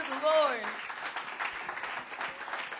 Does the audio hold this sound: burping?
no